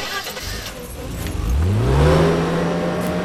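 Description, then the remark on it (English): A parked car's engine starts up and revs at night on a park road, its pitch climbing steadily as it accelerates, loud, after a brief jingle of keys at the start. “Put it in gear.”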